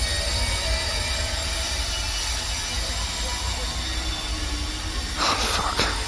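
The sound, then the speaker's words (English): A refinery's steady industrial rumble with thin, high-pitched metallic screeching running through it, and a couple of sharper squealing bursts near the end. No one speaks. “It's just the refinery”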